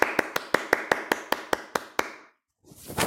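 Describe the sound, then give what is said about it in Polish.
Children applauding as a big round of applause at the end: about a dozen sharp, evenly spaced claps in a quick steady rhythm, then a short pause and a brief burst of rustling noise. “I teraz duże brawa na koniec dla ciebie.”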